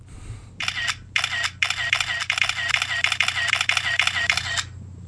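A rapid burst of phone camera shutter clicks from a 4S phone running its old software, starting with three short bursts and then running continuously for about three seconds in a fast, steady rhythm before stopping, over a low hum.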